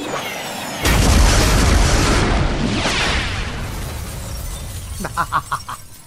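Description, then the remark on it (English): A loud, sudden crash of breaking glass with a heavy low thud, followed by a long crunching, scattering wash and then a few bright tinkles of shards settling. “I love smashing glass. I mean, breaking glass.”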